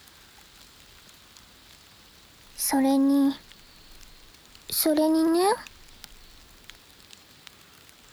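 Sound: rain falling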